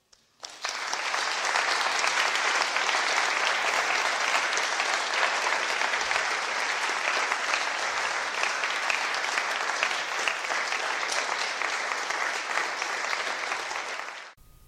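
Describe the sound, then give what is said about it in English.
Sustained, loud audience applause: dense clapping from a large crowd holds steady for about fourteen seconds, then quickly dies away, with no talking over it, as a female speaker walks off stage after her talk. “And she walks off stage to tremendous applause.”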